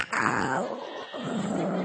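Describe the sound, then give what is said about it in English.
A person imitates a hot air balloon burner with their voice, a gravelly roaring blast lasting about two seconds, dipping briefly in the middle before surging again. “Yeah, you're not going very hard in that balloon.”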